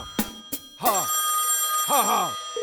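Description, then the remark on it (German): A couple of sharp clicks, then a telephone rings twice in loud, warbling bursts separated by a short pause, clear with no talking, as a call is placed to an astrology hotline. “Heute Anruf bei der Astrologie-Hotline.”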